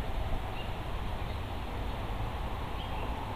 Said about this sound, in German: Und du lauschst dabei dem Blätterrauschen im Wind.